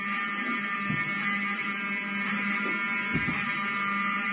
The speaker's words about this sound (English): Open the door. I want them to hear the fire alarm. Open the door. I want people to hear this live to the 16 million people listening.